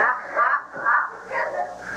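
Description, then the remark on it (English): A dog outside, trying to get in, barks repeatedly in quick, evenly spaced bursts, sounding slightly muffled. “We've got a dog outside that's trying to get in.”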